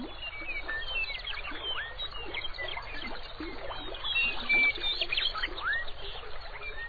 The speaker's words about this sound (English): Today, the southern reaches of the river lie within Grasslands National Park, Canada's premier park devoted to preserving this unique ecosystem. As the river meanders, it blends its music with that of the birds.